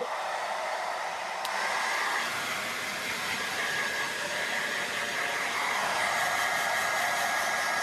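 A hair dryer blows steadily and close by for the whole stretch, a constant airy roar with a thin high-pitched whine riding on top and no voices.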